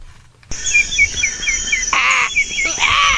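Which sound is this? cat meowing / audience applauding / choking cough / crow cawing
crow cawing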